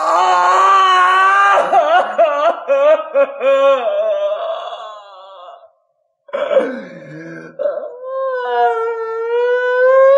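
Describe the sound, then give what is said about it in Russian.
A man's loud, wild howling cry with a wavering, sliding pitch rings out over a city square as a big city wakes, lasting several seconds, breaking off briefly, then rising again into a sustained, anguished wail. No one speaks. “Крик его бешеный, страстный и дикий, крик, простреленный на вылет волчицей, вылетел на середину площади, метнулся под мост и, отталкиваемый отовсюду звуками просыпающегося большого города, стал глохнуть и в минуту затих.”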